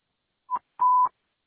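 Channel 11 dispatch radio alert tones dropped to alert all units: a short beep and then a longer steady one at the same mid-high pitch, each edged with brief clicks, with no voices.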